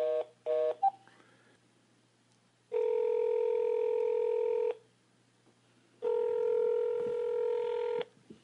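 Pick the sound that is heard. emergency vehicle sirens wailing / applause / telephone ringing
telephone ringing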